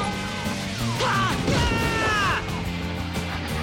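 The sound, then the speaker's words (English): A rapid series of hollow, metallic thumps as a head is banged against the roofs of parked cars, bursting out mid-clip over a busy background of swooping tones and noise, fairly loud. “She bangs his head on the roofs of parked cars.”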